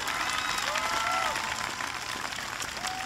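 A large crowd in Michigan claps steadily and loudly for a speaker's introduction, a dense, continuous wash of applause with a few faint whistles or cheers rising above it throughout.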